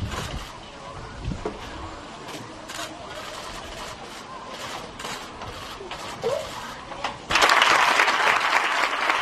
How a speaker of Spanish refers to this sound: Los aplausos en la ciudad del fútbol.